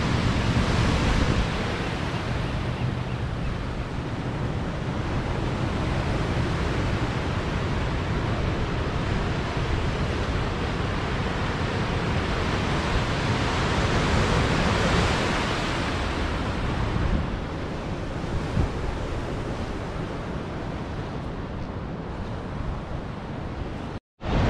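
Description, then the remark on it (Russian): Ocean surf roars steadily as waves break on the shore, a dense continuous wash with gentle swells in loudness and some wind buffeting the microphone. No one speaks. “На дроне надо летать со стороны океана.”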